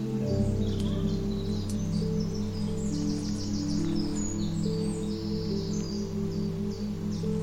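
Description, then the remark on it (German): Birds chirp and twitter in spring in quick, scattered bursts throughout, fairly soft, over a steady, sustained low musical drone. “Und vielleicht hörst du auch die Vögel zwitschern.”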